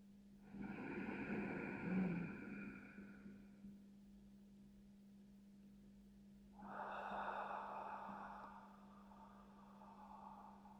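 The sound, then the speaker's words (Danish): Two slow, deep breaths drawn audibly as part of a guided breathing exercise, each a broad airy rush lasting a few seconds with a quiet pause between, over a steady low hum. “Lav denne vejrtrækning, dybe vejrtrækning med lyd på et par gange.”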